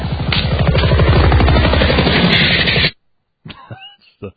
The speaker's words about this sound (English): Helicopter touchdown.